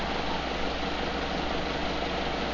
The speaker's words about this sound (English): That's the fan in the background. You want to turn the fan down to low? Making that hum sound.